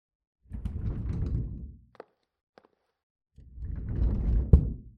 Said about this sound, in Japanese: はい、到着。ね、すぐそこだったでしょ？どうぞどうぞ、ドアを開けて入っちゃって。